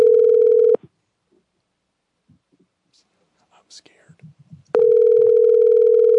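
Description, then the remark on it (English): A loud, steady telephone dial tone drones briefly after a phone call is disconnected, then cuts out. Faint whispering and soft rustles follow before the flat, continuous dial tone comes back and holds. “We keep getting disconnected.”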